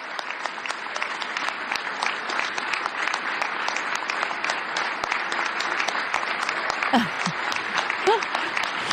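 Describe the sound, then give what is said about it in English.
Sustained applause from a large crowd giving the President of the United States a standing ovation at a breakfast, a dense, steady wash of clapping across the whole clip, with a couple of brief whoops or shouts rising near the end. “Clearly still getting a good round of applause there.”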